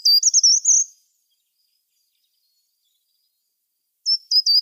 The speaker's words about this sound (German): Wir fangen mal an mit dem Gesang vom Gartenbaumläufer.